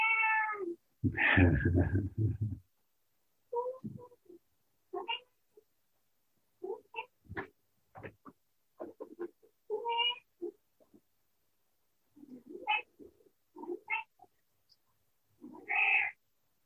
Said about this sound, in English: Thank you, Annie the cat. She's contributing some sound healing into the mix here.